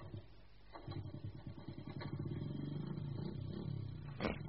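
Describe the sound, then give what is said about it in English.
Annie's motorbike engine chugs into life with rapid, throbbing pulses that swell louder and settle into a steady mid-pitched rumble, ending with a brief clatter. No one speaks. “Ah, Annie's motorbike.”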